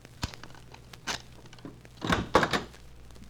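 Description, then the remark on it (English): A few hollow knocks on a wooden hotel room door, spaced irregularly with short pauses between them, moderately loud, with no one speaking. “Leaving Cherokee to wait for me down the corridor a few feet, once again I knocked on the lovely Marie's door.”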